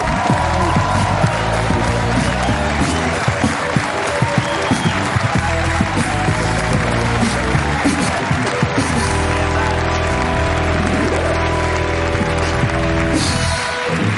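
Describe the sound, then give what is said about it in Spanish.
A studio audience on the show La Resistencia breaks into sustained, loud applause with cheering and whoops for guest Laia Sanz, a dense wash of clapping that continues steadily throughout while music plays underneath. “Pido un aplauso para Laia Sanz en La Resistencia.”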